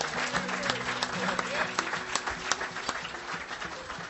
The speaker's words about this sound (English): I think that deserves a round of applause right there.